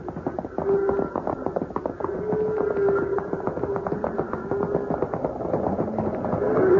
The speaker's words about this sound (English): They're stampeded. And they're moving this way. Fast.